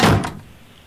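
A heavy stone door opening sound effect: one loud grinding thud that bursts out at once and quickly fades into a quiet, low rumble. No voices are present.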